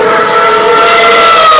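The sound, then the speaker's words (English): A Lotus Formula One car roars past at Silverstone during practice three as it starts to rain, its engine a loud, sustained high-pitched scream with a steady tone throughout, heard alone without any voices. “And that was a Lotus.”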